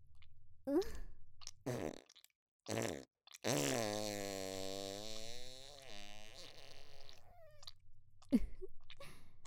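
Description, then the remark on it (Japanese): Several short, sputtering farts followed by one long, buzzy fart that wavers in pitch for several seconds, then a final quick burst. The sounds are fairly loud, with no talking. “そんなに私のおなら、気持ちいいんだ。”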